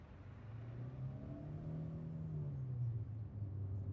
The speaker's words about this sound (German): Mit einem nachdenklichen Blick schaut Adriana noch in den Rückspiegel, als sie das Auto von Nick und Yadissa wegfahren sieht.